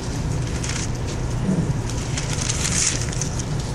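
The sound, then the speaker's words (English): Thin India-paper Bible pages being turned while looking for Isaiah 26:19, a steady papery rustle and soft crinkling that runs the whole time over a low, constant hum, with no one talking. “This Indian paper is hard to turn sometimes.”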